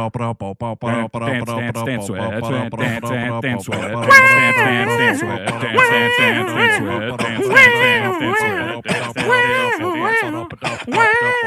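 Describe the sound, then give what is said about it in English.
Rapid scatted 'ba-da-ba-da-ba' vocal syllables in a bouncy rhythm, soon joined by a second voice chanting 'dance, dance, dance, sweat' over and over, with brief cough-like bursts mixed in; loud throughout. “what you do is you do the ba-da-ba-da-ba-da-ba thing, and then I just keep on saying, dance, dance, dance, sweat, dance, dance, dance, sweat.”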